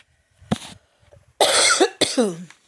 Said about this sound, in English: Yes, I still have a cough. No, I don't have COVID.